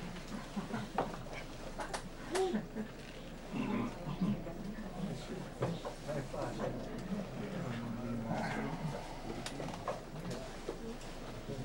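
A donkey named Mariuccia shuffles about, letting out low grunts and snorts amid rustling and scraping movement, with murmured background sound underneath.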